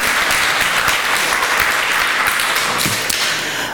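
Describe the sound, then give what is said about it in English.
An audience at a talk applauds steadily, a dense crackle of many hands clapping at a loud, even level that eases off slightly at the very end. “So actually, give yourselves a round of applause for hackerspaces in Germany and pioneering that.”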